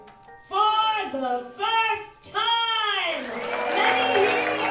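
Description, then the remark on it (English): An audience in a theater behind a secret library entrance of a bar, gathered to celebrate the history of Chicago magic, lets out several loud, high-pitched cheers and whoops, then breaks into steady, sustained applause that keeps going to the end. “By applause, how many of you are here?”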